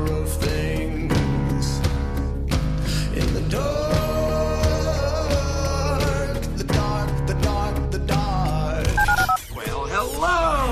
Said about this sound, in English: Dial the phone.